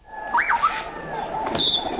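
A few short, whistled bird chirps: a rising-and-falling warble early on, then a brighter high-pitched call near the end, over a soft background hiss. No one speaks.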